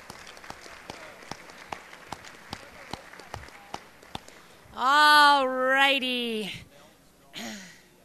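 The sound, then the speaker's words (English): Thin, scattered audience applause for the kids taking part in the YAC, sharp, fairly evenly spaced claps, then a loud drawn-out vocal cheer rises over it and a shorter one follows. “Let's give those kids a round of applause.”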